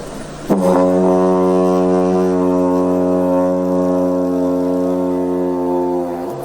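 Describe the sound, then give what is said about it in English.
A didgeridoo is played live on stage without circular breathing: one steady, loud, low drone for about six seconds, a buzzing tone rich in overtones that holds without a break and then stops, with no voices over it. “Now, this brings me on to the didgi, which I'm going to try and get a sound out of it here on stage, so, you know, forgive me if this doesn't sound particularly good, because I...”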